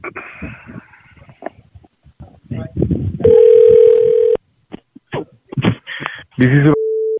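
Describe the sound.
Telephone dialing and ringing tones as a phone call is placed: a loud, steady electronic tone lasting about a second, then short beeps and another tone near the end, with muffled voices in between.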